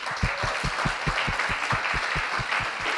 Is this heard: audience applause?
yes